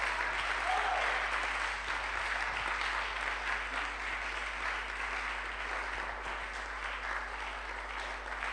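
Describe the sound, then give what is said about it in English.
A crowd claps steadily for the whole stretch, a dense, even patter of many hands that holds at a fairly loud level without a break and with no voices standing out. “Oh, you are not clapping, you are not clapping, you are not clapping.”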